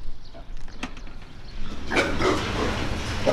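Pigs weighing about 180 to 190 pounds grunt and snuffle inside a low-roofed hog barn on a farm near Gowrie in central Iowa, a busy overlapping chorus that swells louder partway through, with occasional higher squeals.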